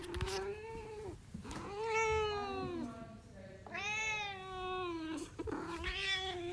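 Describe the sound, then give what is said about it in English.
A cat named Margot meows repeatedly in long, drawn-out, wailing cries, loud, with three or four plaintive calls rising and falling in pitch and brief pauses between them. “Have you recorded Margot meowing?”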